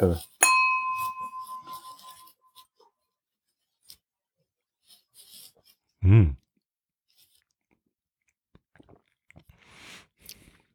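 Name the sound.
drinking glasses clinking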